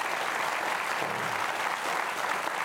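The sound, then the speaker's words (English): Steady applause from an audience fills the whole moment, a dense wash of many hands clapping at an even, sustained level without a clear break. “They're wanting to clap for you right now, right?”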